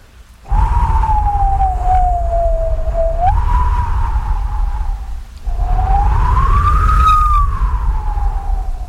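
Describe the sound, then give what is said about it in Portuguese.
A voice imitates howling wind with two long, loud, breathy whooshing tones that slowly rise and fall in pitch, separated by a short break, over a steady low rumble. “Vamos imaginar um som como que de um vento, algo parecido com isto.”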